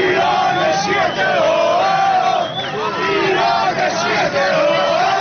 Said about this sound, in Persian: و پایان دیدار، بازی با حساب 2-0 به سود سیاه جامگان به پایان میرسه و این تیم در لیگ برتر باقی میمونه. شادی هواداران سیاه جامگان ابو مسلم پس از باقی ماندن این تیم در لیگ برتر.